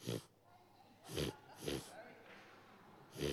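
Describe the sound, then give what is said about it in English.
A person imitates snoring with their voice, making four loud, rasping snorts spaced about a second apart, each a short broad burst of breathy noise with quiet gaps between. “Some good snoring noises there.”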